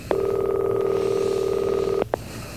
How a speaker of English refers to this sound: Now let's try again. Come on, you old goat. Be there. Answer the phone.